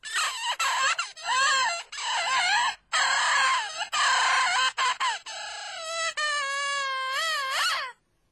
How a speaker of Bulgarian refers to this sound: Вижте, птица. Птица.